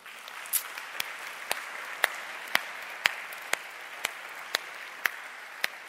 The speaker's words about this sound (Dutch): Zullen we de Heer klappen voor geven?